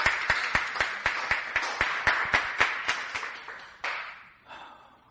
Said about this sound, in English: Praise the Lord. Give the Lord a cheer.